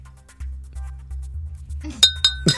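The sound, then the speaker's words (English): A glass is clinked several times in a studio, bright ringing taps with lingering tones, fairly loud over a low steady hum, the sharpest strikes coming near the end. “At least it's a closed receptacle, unlike this glass, which could damage the studio.”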